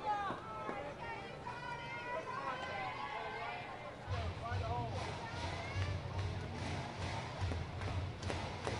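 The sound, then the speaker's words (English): A large baseball crowd at a Marauders versus Hammerheads game buzzes with a steady, indistinct murmur of many voices after the Marauders catcher's long at-bat against pitcher Yuris Jimenez, swelling slightly louder about halfway through and holding as a continuous wash of chatter. “A little buzz pushed into the crowd after Hendry's continued battle against Yuris Jimenez.”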